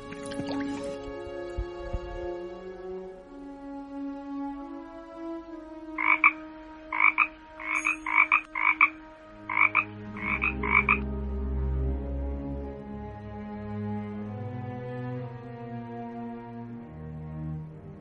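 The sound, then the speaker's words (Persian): A quick run of about eight short, raspy croaks from two frogs that jumped into the water of a pond, sounding in uneven clusters over soft, sustained background music, fairly clear, with no talking. “نگاه کن، همون دو تا قورباغه که پریدن تو آب.”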